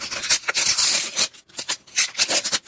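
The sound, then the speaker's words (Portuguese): World Cup sticker packets being torn open in Brazil: a run of crisp, crackling paper rips and rustles in uneven bursts, with a brief pause midway, and no voices. “Ah, rasgar o pacotinho e abrir as figurinhas da Copa do Mundo.”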